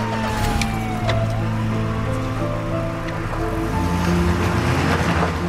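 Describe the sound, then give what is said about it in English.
A police car engine rumbles steadily, with a few short thumps of doors shutting as officers get back in, over the idling motor. No one speaks. “The officers get back in their car.”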